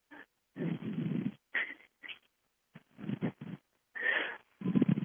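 Heavy, huffing breaths blown straight into the microphone, coming in about eight irregular bursts of rough, breathy noise, some short and some drawn out, with no talking.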